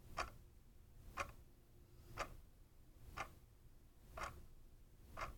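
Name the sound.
ticking of a clock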